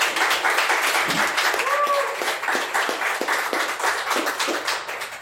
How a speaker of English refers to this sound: And please give a big round of applause to, from Sit, Stay, Read,